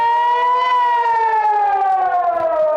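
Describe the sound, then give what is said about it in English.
A loud, sustained air raid siren in Metula, Israel, warning of incoming Hezbollah rockets or missiles, wails steadily with a rich harmonic tone, its pitch sagging slowly downward over a few seconds, with no voices present. “The sirens of incoming Hezbollah rockets or missiles provide only 15 seconds of warning.”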